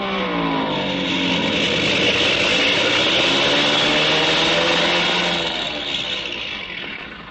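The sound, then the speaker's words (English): A loud airplane engine, which has been acting up, drones steadily as the plane comes in fast to land, its pitch sliding lower during the approach, then the roar eases off slightly at the end. No one speaks. “Well, we'll know in a minute because he's coming in fast.”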